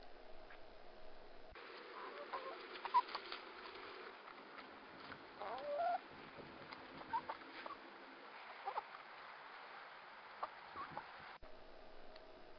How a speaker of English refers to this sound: And in that case, the mic was close enough to the chickens that you could actually hear them picking up the individual seeds and things like that that they were eating. So that gives you an idea for the level of volume there.